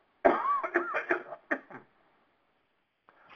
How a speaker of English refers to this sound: I'm gonna cough.